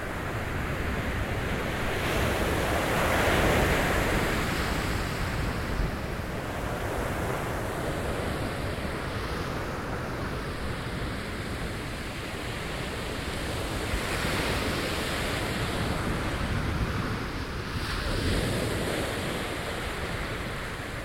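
Atlantic Ocean waves wash continuously onto a shore at night under a cloudless sky, with broad rushing surf that swells and recedes every few seconds, some wind noise mixed in, and no voices.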